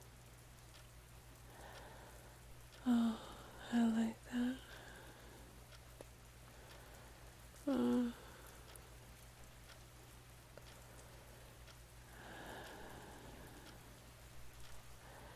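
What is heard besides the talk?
rain falling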